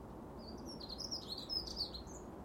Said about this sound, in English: It's the wee dunnock up in the tree.